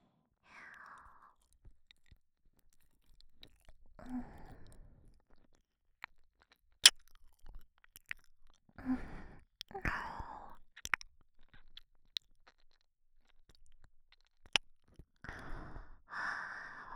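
Wet mouth sounds like ear licking, coming in short bursts with soft breaths and smacking clicks, some sharp and crisp, separated by quiet pauses.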